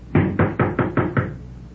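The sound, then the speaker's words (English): Six firm knocks on a house door from the porch in quick, even succession, loud, with no voices around them and the last rap slightly softer. “You going to knock?”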